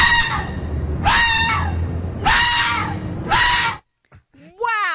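A fox standing at a back porch howls for its little dog friend to come back, in four loud, harsh, screeching bursts of similar length, each falling slightly in pitch, then goes quiet briefly before a shorter rising, wavering cry.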